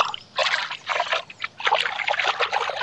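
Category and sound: sound effect, water splashing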